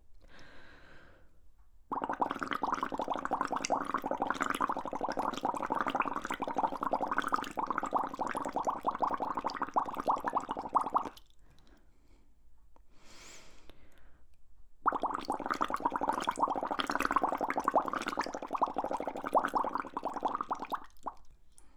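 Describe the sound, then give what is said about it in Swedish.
Two long stretches of steady, gurgling bubbling from air blown through a straw dipped 1 cm into water, each lasting several seconds, separated by a short quiet pause. No one speaks. “Kontrollera så att sugröret sticker ner 1 cm.”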